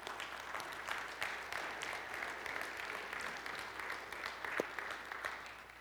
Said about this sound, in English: Once again, give these families an applause. Come on.